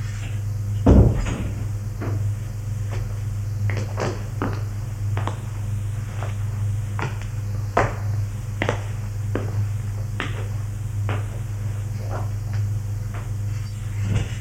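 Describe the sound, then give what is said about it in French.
A door opens with a loud thud near the start, followed by a string of sharp knocks and clicks at irregular intervals over a steady low mechanical hum. No one speaks. “Ouvre une porte.”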